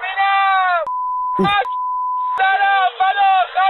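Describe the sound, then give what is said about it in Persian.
A steady, high-pitched censor bleep covers swear words in a recorded report. It cuts over a talking voice and runs about a second and a half, with a brief break where the voice pokes through, then the talking resumes. “پیش از پخش این گزارش خاطر نشان میکنم که در این گزارش نور شدید فلاش دوربین و تعدادی فحش و الفاظ بدبد وجود دارد که بر روی آنها بیبگذاری مناسب صورت گرفته است.”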